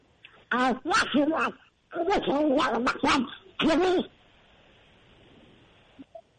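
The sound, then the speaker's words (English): A person does a Donald Duck impression, with raspy, squawking, garbled babble in three loud bursts of unintelligible quacky speech, the last one short, followed by a few seconds of near silence. “Donald Duck makes me uncomfortable. That impression. That's a very good Donald Duck.”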